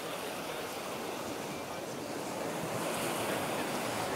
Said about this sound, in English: And please, while you sit on your couch or dance in your living room, imagine being on a beautiful beach. We have ocean sounds.